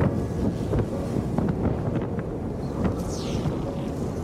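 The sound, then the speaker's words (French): Strong, steady wind in Antarctica roars and buffets the microphone, a dense low rumble with gusty flutters and occasional whistling streaks higher up, continuous throughout with no voices. “Là, vous avez pu en trouver quelques mots dans le grand vent.”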